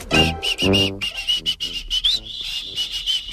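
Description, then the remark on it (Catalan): Someone whistles a tune, a sustained high melodic line that moves between steady held notes, with soft murmuring and breathy sounds underneath at the start. “Una vegada vaig xiular aquesta cançó, abans que es fes, Ah, sí?”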